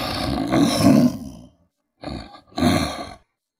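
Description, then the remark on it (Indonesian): A lion roars three times in close succession, a long deep rumbling roar followed by two shorter bursts after a brief pause, loud with no talking. “Pada suatu hari, hiduplah seekor singa yang gagah dan berani merajai hutan yang luas.”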